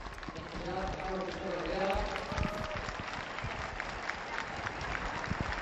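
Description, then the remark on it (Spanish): A large outdoor crowd applauds steadily for members of the Brigada Paracaidista parachuting down in front of the Real Casa de Correo, dense clapping with cheering and a voice or two mixed in, sustained for several seconds. “Estos son los aplausos para ellos.”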